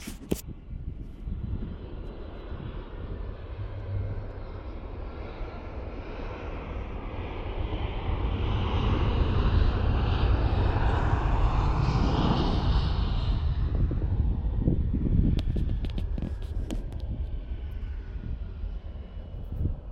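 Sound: jet airliner landing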